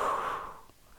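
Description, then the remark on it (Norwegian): A single audible exhale during a guided breathing exercise, a soft breathy whoosh that fades out over about half a second, followed by near silence. “Og pust ut.”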